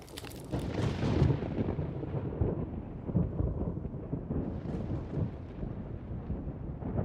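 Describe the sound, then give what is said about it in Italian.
A heavy, continuous rumble of rolling thunder fills the whole stretch, deep and loud, with a crackling burst at the start and a steady storm wash beneath. No voices. “questo sembra un temporale? Mica tanto. Direi di metterne uno in post-produzione.”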